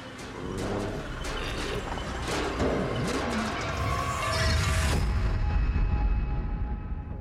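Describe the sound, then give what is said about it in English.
An oxygen tank tumbles inside a running dryer, thudding and clanking in a steady, repeating rhythm over a dense mechanical rumble that grows slightly louder toward the end. “They get right up to it, but do not realize that tumbling inside the dryer is not sheets from a room upstairs. It's an oxygen tank.”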